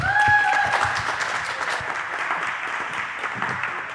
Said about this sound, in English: Well, thank you, and a big applause